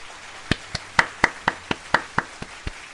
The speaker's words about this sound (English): I know. I need a full applause for that.